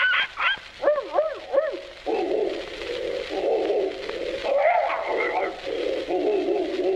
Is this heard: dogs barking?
yes